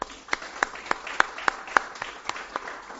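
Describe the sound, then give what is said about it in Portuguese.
Applause from an audience at a ceremony in Uruguaiana celebrating administrators' day, with a steady run of sharp, evenly spaced claps standing out over a softer wash of clapping, moderately loud and continuing throughout. “Peço, a partir desse momento, então, uma salva de palmas a todos nós, administradores, pelo nosso dia e pela abertura que, mais uma vez, essa casa nos traz.”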